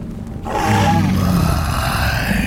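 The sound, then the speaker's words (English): A deep, rumbling creature growl starts abruptly after a brief quiet moment and holds steady and loud for about two seconds, low and throaty with a rough, roaring texture. “It looked into my eyes and growled.”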